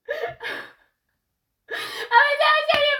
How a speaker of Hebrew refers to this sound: אוקיי, אז איך אני בוכה? אין בעיה שאת בוכה.